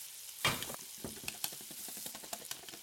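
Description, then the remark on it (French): A woman stirs a sauce in a kitchen: it sizzles and crackles steadily while the utensil scrapes and stirs through it in irregular strokes, with a louder burst of hissing at the start and no voices. “Puis, elle se remet à touiller sa sauce, comme si de rien n'était.”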